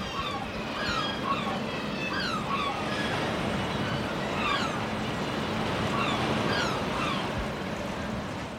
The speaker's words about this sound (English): The sounds of Dunbar Harbour, they're a lovely wee place.